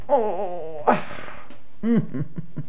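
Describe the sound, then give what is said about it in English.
A drawn-out, moaning yawn from a single voice, fairly loud, followed by a breathy exhale and a shorter voiced sigh. “Yawn and a stretch.”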